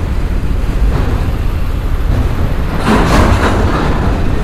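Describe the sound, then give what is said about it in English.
A train rumbles past at close range, a steady loud low roar with rattling, swelling briefly louder near the end as clanking and screeching bursts through. No voices. “This is about as close as I want to get, little buddy. Let's see if we can catch some of that rumble.”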